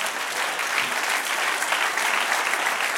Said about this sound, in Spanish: Dele otro aplauso, Señor.